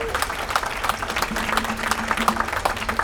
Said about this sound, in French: Donc tout ceci, on le doit au personnel qui est devant vous. Donc on les applaudit très très fort.